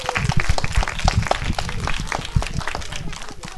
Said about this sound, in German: Und der Michel, nämlich unser euer Kinderfilmfest, der wird heute 18 Jahre alt. Yes, einen herzlichen Applaus für Geburtstag für Michel.